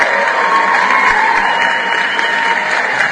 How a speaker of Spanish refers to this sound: Y van los aplausos, claro.